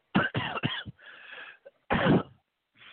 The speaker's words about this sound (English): And so that might be, you know, why I'm always clearing my throat all the time. It might be GMO related.